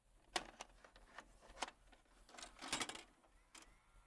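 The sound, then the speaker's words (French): A VHS tape slides into a VCR with a series of sharp mechanical clacks and clicks, a cluster of clunks followed by whirring, clattering loading noises before a final click. “Quand on met un vidéo VHS dans un tape, tu sais, on l'entend clac, cling, cling, cling, là.”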